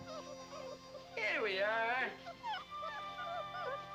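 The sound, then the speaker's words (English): Two hound puppies whimper: a loud, wavering, drawn-out whine in the middle, followed by scattered short, squeaky yips and softer whimpers that continue to the end. “Two little hound dogs.”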